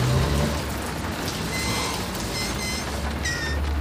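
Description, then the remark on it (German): Steady rain pours down, having soaked the whole road, in a dense, continuous hiss, with a low rumble underneath and a few faint high tones briefly rising above it. No one speaks. “Der Regen hat die ganze Straße aufgeweicht.”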